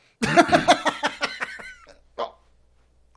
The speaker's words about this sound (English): Oh. That was a little bubble fart. Yeah. That went up the crease in my ball bag. Yeah, I like those. I do, too. Those tickle. They do. They fucking tickle.